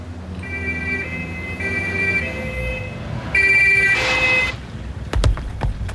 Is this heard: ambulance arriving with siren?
yes